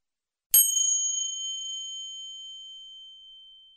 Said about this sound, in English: Now I'm going to chime a little bell, and then I want you to tell me one other colour of the rainbow.